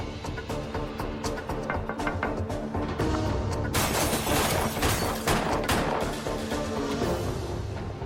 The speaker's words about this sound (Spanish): El testigo escucha los disparos.